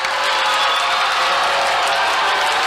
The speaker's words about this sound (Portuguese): Um misto de aplausos e vaia inunda o auditório com o anúncio de triunfo da dupla vinda do Paraná.